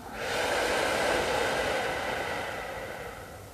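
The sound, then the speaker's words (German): A single long, slow, breathy exhale during a guided relaxation breathing exercise, rising quickly to a steady airy rush and then gradually tapering off over a few seconds, with no one talking. “Und wieder aus.”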